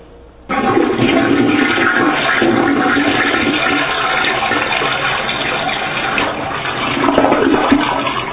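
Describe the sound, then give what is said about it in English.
A toilet in a bathroom, next to the sink, flushes: after a brief quiet moment a loud, steady rush of swirling water starts abruptly and continues for nearly eight seconds, swelling slightly toward the end. No one speaks. “On your left is the sink. And next to that is the toilet.”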